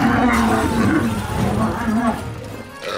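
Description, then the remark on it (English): A lion roars loudly, a deep rumbling growl that rises and swells continuously for about three seconds before easing off, with no talking over it. “Her parents got her a lion, but then it ate her favorite servant.”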